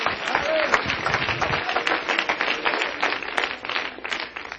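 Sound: audience clapping hands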